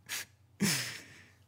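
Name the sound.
yawning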